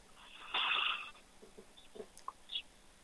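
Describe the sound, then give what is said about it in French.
A deep, steady breath drawn in through the nose during a breathing exercise, loud for about half a second, followed by a few faint, soft clicks and rustles in otherwise quiet surroundings. “vous allez inspirer par le nez et souffler doucement”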